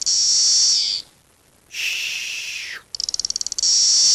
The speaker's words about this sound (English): In any case, here are the 3 species. This is number 1. Magicicada cassini makes the white noise sound. Shh. Shh.